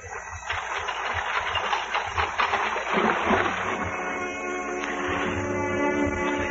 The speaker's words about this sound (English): We pushed off with no other sound than the movement of our oars.